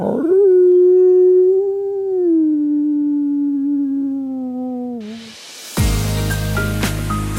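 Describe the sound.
A person imitates a wolf howling: one long, steady howl that holds for about five seconds and slowly sinks in pitch, then cuts off into a burst of loud, dense noise.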